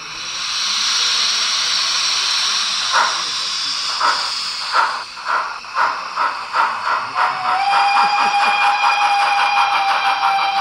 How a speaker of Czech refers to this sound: To je pára 377, původně německá. Je tam reproduktor asi 9x15 mm.